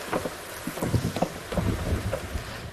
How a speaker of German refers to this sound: hast du den Regen aufgenommen? Hast du als Originalgeräusch? Oh, wie geil. Wie der so prasselt.